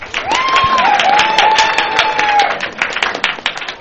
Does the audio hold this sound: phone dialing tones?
no